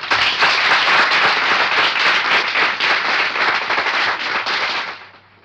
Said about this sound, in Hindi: महको तो ऐसा महको कि बहारों में होश आ जाए, तालियां ऐसा लगाओ कि कलाकारों में जोश आ जाए।